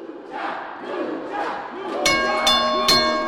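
A lively crowd of around 460 men, women, and children shouts and cheers at a Lucha Libre wrestling match around a ring in a library's first floor gallery space in San Antonio, and about halfway through three sharp, ringing metallic strikes cut through the steady roar of voices.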